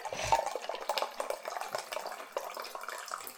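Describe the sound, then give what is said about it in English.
Brewed tea being poured into a cup, a steady trickle of liquid with small clinks and splashes, lasting a few seconds with no one speaking. “I'm going to pour myself a cup of tea that's been brewing,”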